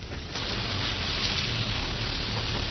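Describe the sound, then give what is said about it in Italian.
Rain falls in Rome in a steady, dense hiss with a low rumble underneath, holding an even loudness throughout after a brief softer start. No voices are heard. “Ecco, questa è la pioggia dal vivo, sentite.”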